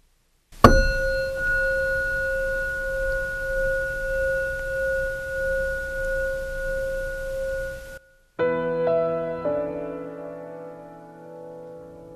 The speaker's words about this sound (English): We will ring the chime to begin and end the meditation.